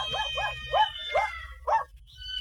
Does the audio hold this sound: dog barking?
yes